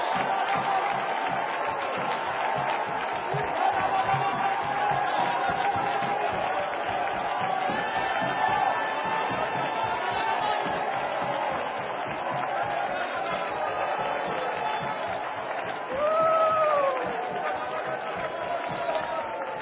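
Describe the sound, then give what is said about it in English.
An audience shouts and claps together in praise of the Lord, a dense, steady roar of voices and hand claps, with a few higher cries rising above the din near the end. “Shout it one more time. Clap those hands one more time.”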